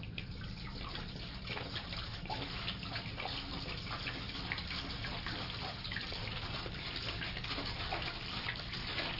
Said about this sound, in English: Empty that water into that pan. Okay, ready? Go. You can tip it upside down.